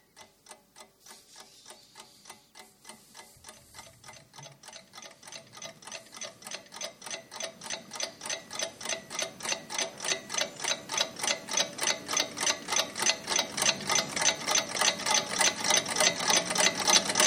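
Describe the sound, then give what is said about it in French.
Alarm clocks ticking together in a dense, steady mechanical rhythm, sharp bright clicks that layer and grow steadily louder over the whole span, with no voices. “Des réveils.”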